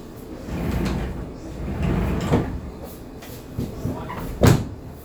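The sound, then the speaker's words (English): A door is pushed shut, with a softer bump first and then a firm thud near the end, over a low, steady rumble. “When it comes to here, the right side of the people, and the person, I have to close the door here.”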